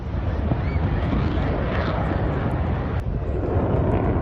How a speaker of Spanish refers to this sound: El sonido de los aviones sobrevolando la bahía de San Lorenzo. Han comenzado los ensayos para el Festival Aéreo del domingo.